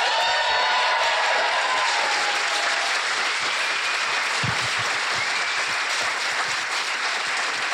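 A live audience breaks into sustained, loud applause, a dense wash of clapping with scattered cheers and whistles running throughout without pause.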